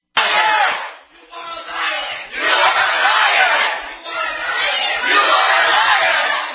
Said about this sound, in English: Yeah, now they're calling her a liar. They're screaming that she's a liar.